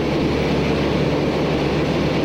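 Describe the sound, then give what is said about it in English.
A loud, steady engine roar fills the whole stretch, a dense rumbling drone with no pauses, as the Voyager, a light carbon fiber propeller plane, lumbers down a long runway at the start of its attempt to fly around the world. “The Voyager begins to lumber down the long runway. Its attempt to fly around the world is beginning.”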